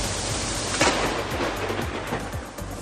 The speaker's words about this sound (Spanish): Este es el susto que tuvimos ayer con esa lluvia intensa y esos rayos que recorrieron buena parte de la provincia, con unas lluvias no muy largas, pero sí intensas en cuanto a cantidad.